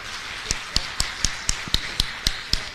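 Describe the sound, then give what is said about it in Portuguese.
Audience applause for Beto after his talk at a debate, in a steady, even rhythm: about nine crisp, sharp claps at a regular quick pace, moderately loud, with no talking over them. “Uma salva de palmas para o Beto, por favor.”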